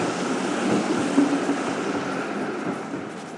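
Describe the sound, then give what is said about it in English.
A tram rumbles along a muddy street in Brussels, a steady rolling roar of wheels on rails with a low hum beneath, holding fairly loud and even throughout with no talking. “At least you can hear the trams coming.”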